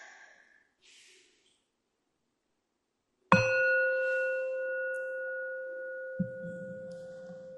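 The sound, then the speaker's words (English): A single meditation bell is struck once to begin a guided meditation, ringing out clear and resonant with a long, slowly fading sustain, preceded by a few soft breaths and a quiet rustle near the end. “I'm going to start with the sound of the bell.”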